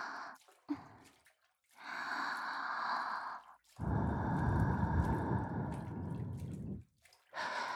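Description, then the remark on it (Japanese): A series of soft, airy breaths blown toward the listener, ending with a long, strong exhale that carries a low, rumbling whoosh, with short pauses between. No one speaks. “お前、吐息も好きなんだったな。吹きかけてやるからな。”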